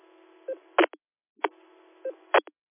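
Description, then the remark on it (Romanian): A mobile phone gives short electronic beeps in two matching bursts roughly a second apart, each a quick cluster of tones with a thin, tinny quality. No one speaks. “Scuze că m-a spus telefonul.”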